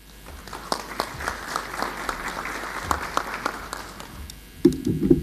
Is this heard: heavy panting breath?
no